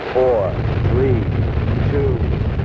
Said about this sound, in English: The engines are on.